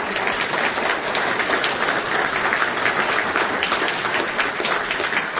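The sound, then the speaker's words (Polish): Sustained, dense applause from a large congress audience, thanking all staff of Radio Maryja, Telewizja Trwam and their daily newspaper for media coverage of the congress, many hands clapping steadily at an even loudness throughout, with no distinct voices standing out. “Też oklaski gorące dla wszystkich.”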